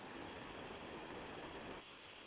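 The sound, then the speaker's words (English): Steady, dense road noise from inside a moving vehicle, a constant rushing roar with low rumble that dips slightly near the end. No voices are heard. “Yeah, is that better with the road noise?”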